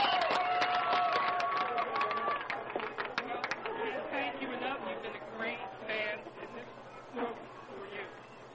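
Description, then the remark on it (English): A crowd of baseball fans cheers loudly at the Zion Pioneers' league championship trophy presentation. Shrill whistles sound near the start and scattered clapping runs throughout. The roar of many voices holds steady, then thins slightly toward the end. “There it is. The cheer once again.”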